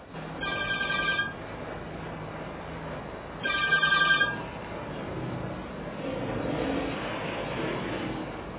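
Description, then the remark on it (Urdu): A mobile phone ringtone chimes in two short melodic bursts a few seconds apart, fairly loud over a steady murmur of room noise, with no talking. “Music والی tone کیوں رکھی ہے آپ نے؟”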